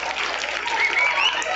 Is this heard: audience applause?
yes